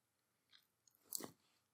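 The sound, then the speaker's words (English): Chewing of food, with a few soft crunchy bites building to one louder, brief crunch near the end, heard alone with no talking. “Slow down. Make sure you're chewing.”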